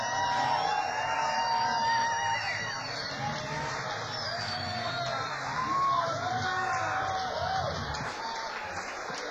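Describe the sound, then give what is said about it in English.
A crowd applauds steadily and loudly for about nine seconds, with shrill whistles and cheers rising and falling above the dense clapping. “give a big round of applause, ladies and gentlemen,”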